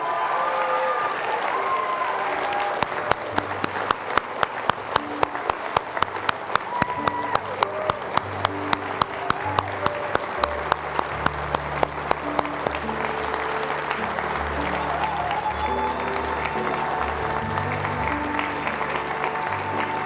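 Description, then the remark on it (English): Sustained applause from a large crowd at a high school graduation ceremony for the class of 2023 fills the whole stretch, dense rapid clapping with a steady roar, while low murmuring and voices hum beneath it. “All right, let's clap for all of them together, the class of 2023.”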